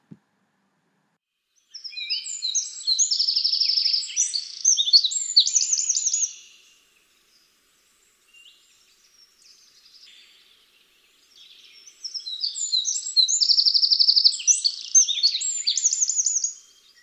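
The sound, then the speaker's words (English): Two bursts of loud, shrill wren song, each about five seconds of rapid high-pitched notes ending in a fast trill, separated by a quiet pause with no talking. “The wren is one of the smallest birds in Britain, but also one of the loudest, with a shrill song that lasts about 5 seconds and usually ends in a trill.”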